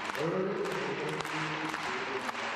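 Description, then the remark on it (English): A crowd claps in a steady, rhythmic beat that is not in time with anything Dennis Rodman is doing, the sharp claps landing roughly twice a second over a dense, constant roar of crowd noise and murmuring voices. “Right, and then this rhythmic clapping that's not in time with anything that Dennis Rodman's doing.”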